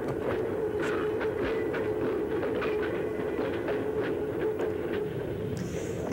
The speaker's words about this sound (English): Come ride the little train that's going down the tracks to hell.